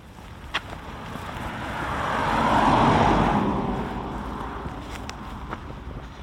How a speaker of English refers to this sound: I was just about to say hardly any cars have passed us, and then three passed us.